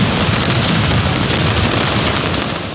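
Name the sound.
fireworks exploding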